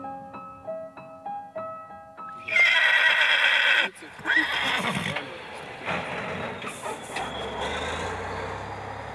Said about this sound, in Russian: А здесь лошади будут есть. Вот здесь вот будет сено, репток с сеном.